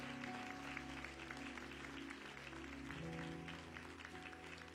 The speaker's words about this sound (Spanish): Alguien que le dé un aplauso. Vamos, déselo más fuerte al Señor.